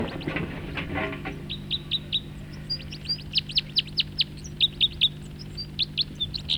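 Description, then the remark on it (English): A bird sings a rapid series of short, high-pitched chirps in quick bursts during its song flight, repeated in a fast rhythm over a steady low hum, with a brief rustling noise at the start. “Song flight of the bird that was calling.”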